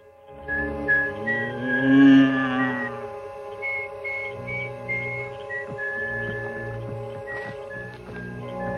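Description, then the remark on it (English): A bulldogger whistles a light, wandering tune in short repeated phrases over a steady low hum of background music or ambience with no talking. “Vindicator follows the whistling bulldogger.”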